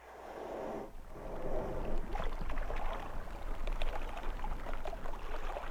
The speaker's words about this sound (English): Those ocean sounds are telling me that it is time for us to leave solid ground behind and cast out into the unknown.